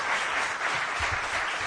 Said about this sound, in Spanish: no aplaudan tanto porque el problema está en que el chico se lo cree, está empezando en esto de las letras y se lo va a acabar creyendo.